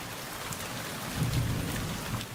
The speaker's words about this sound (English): It's raining right now outside my window.